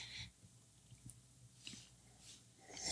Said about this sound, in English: Shh, we're enjoying the beer. That's right. Slurp sounds for everybody.